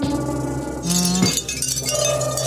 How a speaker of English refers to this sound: They're showing wind chimes. Yeah. Oh, aliens and wind chimes go hand in hand.